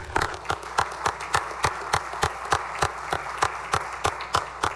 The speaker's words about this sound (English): If the Senate could make the guests of the Senator from Barton feel welcome to Senator Chambers, let's give her applause.